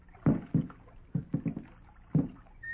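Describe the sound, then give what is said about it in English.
Two people row a boat with oars on a river toward floating fresh-cut logs, the oars dipping and pulling through water in a slow, uneven series of strokes, each a soft splash with a low knock, pausing briefly before the next pull. No one speaks. “Slowly, stealthily, they begin to row toward the fresh-cut logs floating on the surface.”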